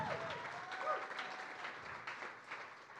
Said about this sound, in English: Well, go ahead and give Jesus a big hand clap if you love the Lord.